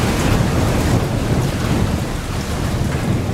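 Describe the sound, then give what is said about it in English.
Steady, heavy rain hisses continuously with a deep low rumble of thunder rolling underneath, a dense and fairly loud storm with no voices present, played as rain sounds from a bedside speaker. “Enter the rain sounds from your bedside speaker. Actually, this one's a little aggressive in terms of the storm.”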